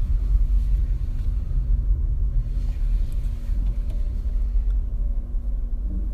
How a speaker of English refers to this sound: I'm parking, so hopefully my car doesn't make too much noise.